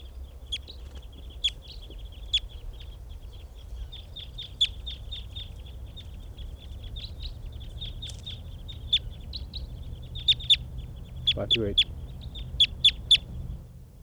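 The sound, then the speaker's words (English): A flock of wild birds calls steadily near a catching net with decoys as the flock takes off: dense, short, high-pitched chirps repeat throughout, growing sharper and busier toward the end, over a low background rumble. “And the flock is taking off, leaving some birds in the net.”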